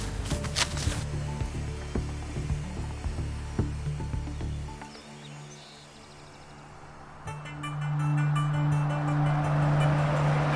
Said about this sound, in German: fährt den Wagen in einen Lagerschuppen.